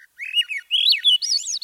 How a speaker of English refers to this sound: That's got to be the Swainson's thrush? You got it! That one's less familiar to most of us, and the ascending melody is a signature of the Swainson's thrush.